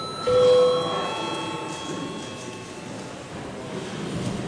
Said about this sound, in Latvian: Lūdzu zvanu, lūdzu deputātu klātbūtnes reģistrācijas režīmu.